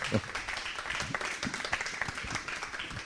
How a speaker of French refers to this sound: Oui, vous pouvez l'applaudir, c'est pas un exercice facile.